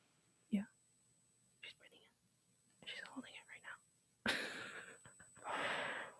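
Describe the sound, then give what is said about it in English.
Soft whispered sounds give way to a long, loud breath, followed by a second sustained, airy exhale, as a person does a controlled breathing exercise: breathing in for four counts, holding for seven and breathing out for eight. “You breathe in for let out for four. Hold it in for seven, let it out for eight.”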